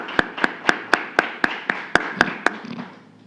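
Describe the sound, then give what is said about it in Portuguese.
Applause for an honoree at a tribute ceremony, in a quick, steady rhythm: about ten sharp, distinct claps at an even pace, then a short fading tail. No one speaks. “Pedimos uma calorosa casa de palmas ao homenageado.”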